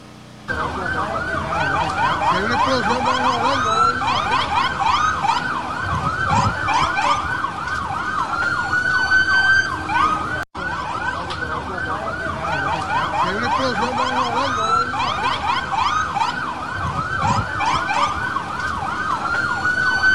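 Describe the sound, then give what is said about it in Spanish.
Several emergency vehicle sirens wail at once, loud, their rising and falling tones overlapping continuously and drowning out other sounds, with a brief break midway before they resume. Fire and emergency units are responding to a fire in Guayama, apparently caused by a power generator. “Bueno, es un poco, ¿verdad?, cuesta arriba poder escuchar el fuego y la gente hablando por las sirenas, pero eso ocurrió hace unas 3 horas atrás en el pueblo de Guayama.”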